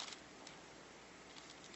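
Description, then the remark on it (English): Steady, soft hiss of rain falling, with a few faint scattered taps and patters over a constant wash of noise; no voices, fairly quiet and even throughout. “It's rain again.”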